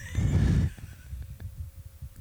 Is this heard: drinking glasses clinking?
no